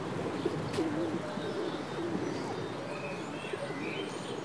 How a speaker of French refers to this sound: Il y a souvent pas mal de pigeons par là. Quand on a du pain, on jette au pigeon, parce qu'il est dur le pain.